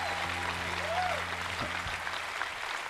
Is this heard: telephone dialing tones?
no